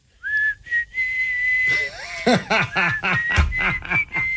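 A person whistles a tune in clear, steady notes that shift in pitch. Halfway through, breathy laughter and snickering break in and mix with the continuing whistle.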